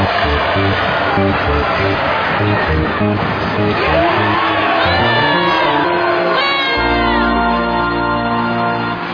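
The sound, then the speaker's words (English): A large sports crowd, mostly rooting for the home team, roars and cheers continuously, with high whoops and shouts rising out of the din and a steady low rumble underneath. “Since most of these people are rooting for the home team, I'm gonna cheer for the visitors.”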